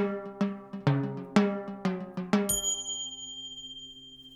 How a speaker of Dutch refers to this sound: Ik sta voor de Marcusklok. Ik hoor het tikken boven me. En het is een hoog ding.